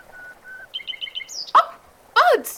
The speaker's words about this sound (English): Bird songs, rather. Pipe them through speakers.